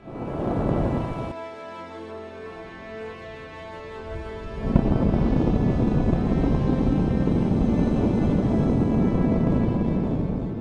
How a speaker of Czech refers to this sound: SpaceX potvrdila, že se podařilo zažehnout všech 6 motorů Raptor a zážeh trval požadovanou dobu.